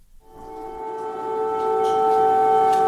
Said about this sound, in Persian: این صدای آژیر هشدار قرمز در کیف در ساعت اولیه بامداد جمعه است. صدایی که عموماً در طول شب شنیده می‌شود، آن هم زمانی که روسیه با استفاده از پهپادهای انتحاری یا موشک شهرهای مختلف اوکراین را هدف قرار می‌دهد.